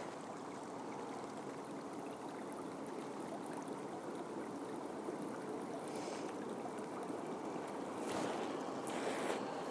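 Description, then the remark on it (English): A small stream babbles and rushes steadily, a continuous watery hiss with no voices. Brief brighter splashes rise out of the flow near the end. “And how about a wooden bridge? And a wee burn.”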